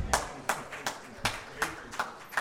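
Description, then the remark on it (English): A steady, rhythmic run of claps, about seven sharp hits evenly spaced, as an audience claps together in time in response to the question 'Anybody here thankful for God's love?', moderately loud with a faint roomy background. “Oh, come on, don't applaud me for asking the question.”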